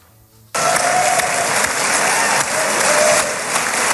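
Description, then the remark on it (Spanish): A large crowd in the Israeli Parliament breaks into sustained, loud applause interrupting US President Donald Trump's speech, starting abruptly after a brief quiet moment and continuing steadily, dense clapping with faint cheers mixed in. “A esta hora ese es el sonido, el de las constantes interrupciones con aplausos a Donald Trump, al presidente de Estados Unidos, durante su intervención en el Parlamento de Israel, que ya te adelanto, todavía sigue.”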